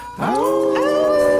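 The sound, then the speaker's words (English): Several voices on the Moondog Show howl together like dogs at the moon, a rising harmonic wail that swoops up and holds a long sustained tone, loud with no speech. “And now, on the count of three, we all gonna howl at the moon dog.”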